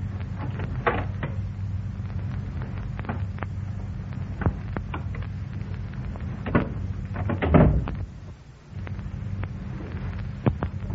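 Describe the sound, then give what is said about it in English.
A door knob is tried with a series of sharp, irregular clicks and rattles, then a louder scraping thump as the door swings open, all over a steady low hum. “Somebody's at the door. He's trying the knob.”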